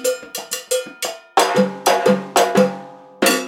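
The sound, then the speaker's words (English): A handcrafted Yuli Percussion cowbell, made for salsa bands, is struck in a quick, syncopated rhythm, about a dozen bright metallic clanks with ringing overtones, the later hits louder and lower-pitched. No voices are heard. “Meanwhile, Yuli percussion cowbells are signposts for staying on beat.”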